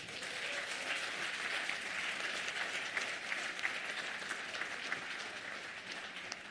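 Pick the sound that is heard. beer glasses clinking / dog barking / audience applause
audience applause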